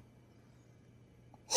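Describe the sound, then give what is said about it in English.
A quiet stretch of low room hum, then one sharp, loud sniff at the end as someone smells the bouquet of a glass of dark red wine. “I'll give it a sniff.”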